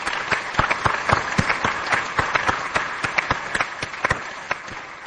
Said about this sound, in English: I think we all owe them a huge round of applause for their volunteer support.